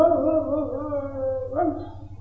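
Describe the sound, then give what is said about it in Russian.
A person imitates a dog whimpering with a drawn-out, nasal whine that wavers, then briefly lifts in pitch near the end. The voice is steady, with no words spoken. “Он пошел на этот плач, увидел, собака плачет.”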